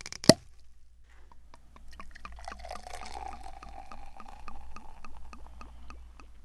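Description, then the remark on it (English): A sharp pop or clink opens, then champagne is poured steadily into a super-sized champagne glass, with a continuous bubbling hiss and rapid crackling pops of rising bubbles throughout. “So I'm going to pour now.”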